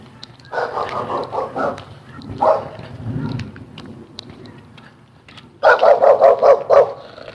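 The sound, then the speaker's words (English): A dog barks in two quick rhythmic bursts of several sharp barks each, fairly loud, with a softer single bark between them and low rumbling in the background. “Easy, dog.”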